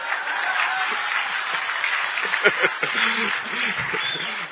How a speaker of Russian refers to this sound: Чего не реагируем на? Давай пободрее, аплодисментики дали.